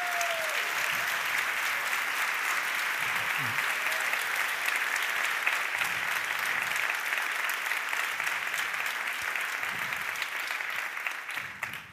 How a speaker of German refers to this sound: Und deswegen begrüße ich Sie ganz herzlich hier noch einmal mit einem tosenden Applaus für das Team, das hier heute wunderbare Arbeit gemacht hat für euren und ihren Auftritt.